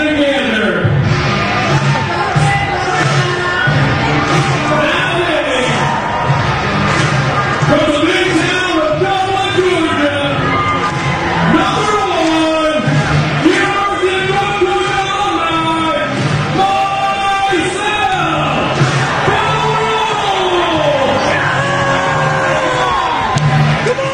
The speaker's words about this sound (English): Crowd's fired up. I saw that.